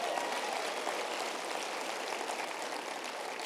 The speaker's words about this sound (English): I am telling you, if you're going to clap, you need to clap well for that. It's been good to be in God's house, amen?